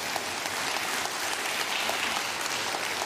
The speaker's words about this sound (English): If we're applauding for the Lord and not for me.